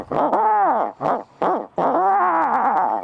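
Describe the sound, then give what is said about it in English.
An imitated owl call, made in the middle of the day while turkey hunting, rings out loud: a quick run of short hoots followed by a longer, drawn-out wavering hoot, with no talking. “Hit him with the owl call.”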